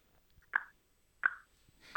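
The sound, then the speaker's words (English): A voice imitates a sperm whale's clicking with three sharp mouth clicks, evenly spaced about two-thirds of a second apart, each a crisp, fairly loud pop with a short tail, separated by silence. “So the sperm whale uses kind of like a click, like a...”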